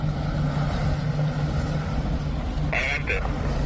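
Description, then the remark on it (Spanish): Engines of several drug-smuggling speedboats roar steadily as they pass under the Alamillo bridge beside the Estadio de la Cartuja on the Guadalquivir river in Seville, Spain, a deep, droning hum that stays loud from start to finish. A brief high tonal call cuts in twice near the end. “La Guardia Civil está investigando la aparición de varias narcolanchas navegando bajo el puente del Alamillo junto al Estadio de la Cartuja de Sevilla.”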